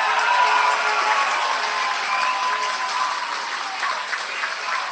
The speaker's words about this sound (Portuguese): não existe realmente momento mais satisfatório do que esse, ao receber aí uma calorosa sempre salva de palmas por parte da nossa população aqui do estado do Paraná.